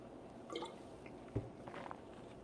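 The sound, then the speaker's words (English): Quiet liquid sounds of someone sipping water: a few soft wet slurps and drips, then a short sharp click partway through, with no one talking. “Got a little water here.”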